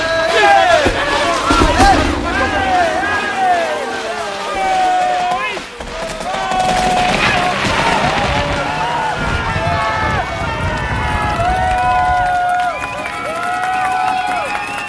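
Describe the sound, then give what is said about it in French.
A jubilant crowd cheers and shouts as a column is toppled, many overlapping voices whooping and calling out at a loud, steady level, with a brief dip around the middle before the roar picks back up. “Elle est tombée, vous entendez la foule en liesse derrière moi.”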